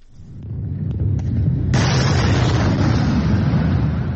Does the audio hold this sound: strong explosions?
yes